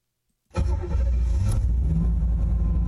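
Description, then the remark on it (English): After half a second of silence, the 215-horsepower engine of a 1986 IROC Z Camaro, detailed by Oakland Auto Detail, roars to life and revs, a loud, deep rumble with a brief rising surge before settling into a steady, throaty idle. “That's right, 215 horsepower of American muscle.”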